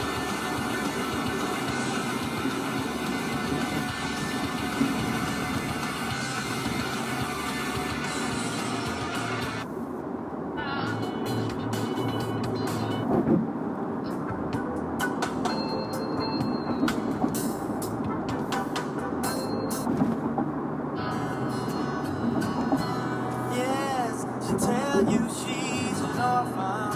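A car drives steadily along a road after swerving around a truck, its engine and tire rumble forming a continuous wash of noise for the whole stretch, with slight shifts in tone but no pauses.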